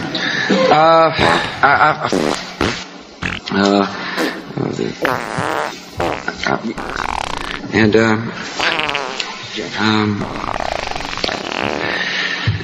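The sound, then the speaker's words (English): A long run of loud fart noises, one sputtering blast after another with only brief pauses between, continuing throughout. “What could possibly be funny about fart noises?”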